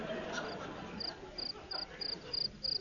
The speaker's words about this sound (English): Listen, what's making that noise? The cricket.